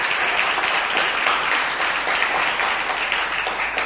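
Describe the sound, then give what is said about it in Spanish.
Sustained audience applause in a small shed on Gorriti street, a dense steady wash of many hands clapping at once, fairly loud, filling the whole moment without any talking over it. “vamos a utilizar el mismo aplauso que traíamos para saludar a Patricio Barton”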